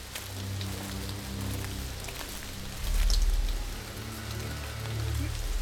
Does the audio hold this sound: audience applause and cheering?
no